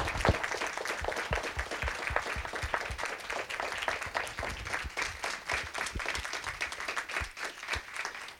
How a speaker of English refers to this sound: So just please give this group a great round of applause.